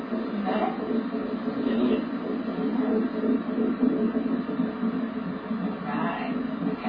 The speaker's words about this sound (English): That's the sound of the heartbeat of a fetus.